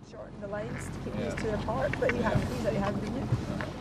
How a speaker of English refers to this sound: She takes me out on a boat to look at her floating forests.